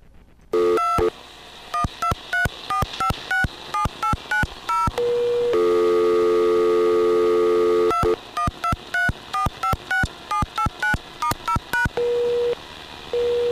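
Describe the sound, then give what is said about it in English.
Rapid sequences of DTMF telephone keypad tones as number sequences are dialed, short dual-pitched beeps in quick bursts, broken by a few longer steady tones, including a sustained beep lasting over two seconds in the middle. No voices. “So, it's going to beep once at me, at which point I'm going to hit 2 again, and then I'm going to dial the right sequence, at which point I'm going to pass.”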